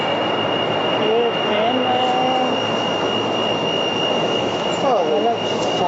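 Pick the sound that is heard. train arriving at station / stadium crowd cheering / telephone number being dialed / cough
train arriving at station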